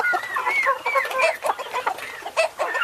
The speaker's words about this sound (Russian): Цыплята в разные стороны разбрелись.